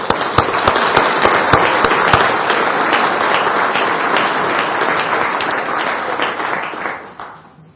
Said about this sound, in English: Thank you for your work on our behalf. Perhaps we could give them a round of applause.